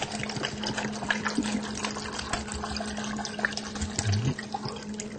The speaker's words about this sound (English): Now you can cook your apples in water if you want, or soy milk or something, but the way I like to do it best is in apple juice. Now I'm going to pour some apple juice in, enough to cover.